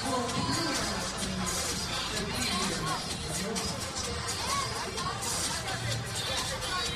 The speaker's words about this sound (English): Now the crowd is starting to fill in. Yeah, this is quite a few people here.